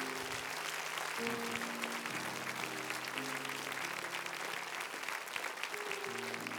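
A crowd claps steadily and densely for several seconds, a sustained wash of applause from many hands as praise to God, with a soft sustained tone underneath.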